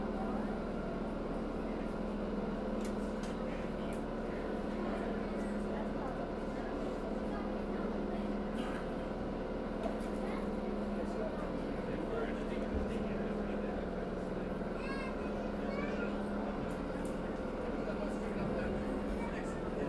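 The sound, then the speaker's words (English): A boat engine drones steadily for the whole stretch as the boat comes in to a dock, a low rumbling hum with a faint mechanical whine on top, while indistinct voices murmur underneath. “We're going to be coming in the dock in just a few moments now.”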